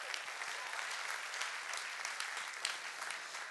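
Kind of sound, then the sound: crowd, audience clapping and cheering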